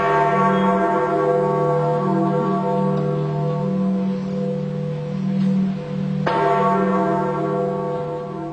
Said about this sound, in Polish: Ten dzwon to znak, że odszedł największy człowiek współczesnego świata, papież Polak, Jan Paweł II.